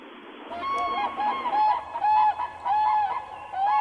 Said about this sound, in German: Da haben wir ein paar Vögel.